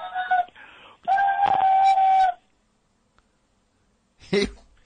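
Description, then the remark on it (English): A voice mimics a steam whistle, a short hoot and then a longer, loud, steady shrill tone with breathy hiss. A pause follows, then a brief vocal burst. “And he even made the steam whistle sound.”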